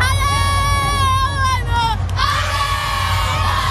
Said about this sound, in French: Une ambiance, vous l'entendez, bon enfant, familiale. Les minots de 7 à 10 ans ont donné de la voix comme dans un vrai match.